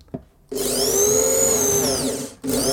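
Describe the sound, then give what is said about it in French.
A power drill fitted with a hole saw cuts a 2.5 cm hole into a wooden board, a sustained high whining grind with a slight pitch sag. It runs for about two seconds, stops briefly, then starts again. “Et maintenant, je vais pouvoir délicatement appuyer sur ma gâchette de ma perceuse et commencer à découper un trou donc de 2,5 cm dans ma planche.”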